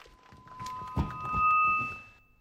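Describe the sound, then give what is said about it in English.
A microphone is handed to the father of the bride at a wedding, with a heavy thump and rustling handling noise, while thin, steady high-pitched feedback tones ring faintly through the background. “A microphone's handed to him.”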